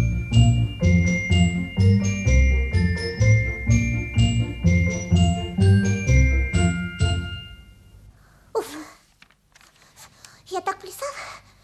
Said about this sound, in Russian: зайчик, попляши, всех на свете рассмеши, колокольчик зазвени, тили-тили, динь-динь-динь.